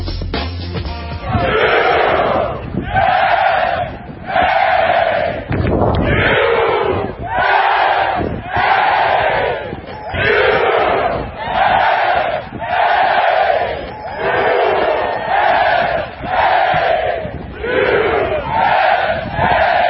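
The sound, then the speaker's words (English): A large crowd chants in unison at the Ryder Cup golf tournament at Whistling Straits, Wisconsin, a loud, steady rhythm of about a dozen repeated shouted phrases with brief pauses between each, like a rallying battle cry. “That was the chance that could be heard all over Wisconsin, but specifically at Whistling Straits.”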